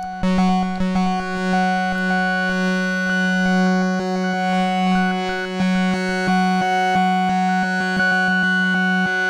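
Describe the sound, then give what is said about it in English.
Output of a Microcosm effects pedal with the mix turned all the way up, fully wet: a steady, harmonically rich drone with rapid rhythmic stutters and clicks running through it, loud, with no voices. “So I've got the mix turned all the way up, so you're only hearing pedal right now.”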